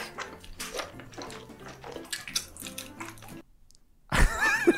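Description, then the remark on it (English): Wet, squelchy chewing and slurping of noodles, a steady run of small smacks and sticky clicks, then a brief pause before a louder, messier burst of wet mouth sounds. “That's chewing? Yeah. Ugh, they're chewing like octopus.”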